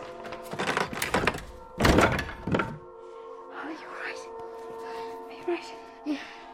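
The door of a house being closed: a burst of rattling and clatter ends in one heavy thud and a shorter knock. A few soft taps follow over a steady, faint hum.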